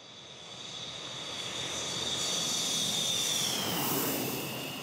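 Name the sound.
airplane engine in flight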